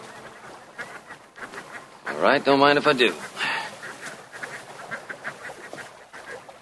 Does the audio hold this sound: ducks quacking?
yes